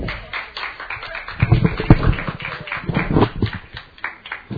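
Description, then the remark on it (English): A church audience claps hands for the Lord in a dense, steady burst of applause, many overlapping claps forming a continuous rattling wash that swells midway and stays fairly loud throughout. “Give the Lord a hair clap.”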